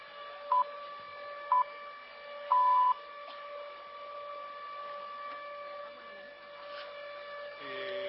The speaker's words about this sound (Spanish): Ahí, mire, ahí está. Empiecen a escuchar la sirena hora... y comienza el acto de la vigilia. Ahí está.